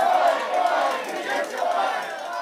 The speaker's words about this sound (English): Soon after the protesters began shouting, the mayor walked away from the podium and stopped the news conference.